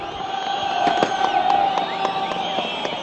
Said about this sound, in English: People hung from telephone poles and clambered up drain pipes for a coveted rooftop view. As the helicopter bearing Arafat's body appeared in the sky, a wild cheer went up.